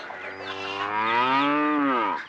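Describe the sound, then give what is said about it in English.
A cow moos once in a long, loud, drawn-out call that rises slightly and then falls away at the end, heard clearly with no talking. “A cow.”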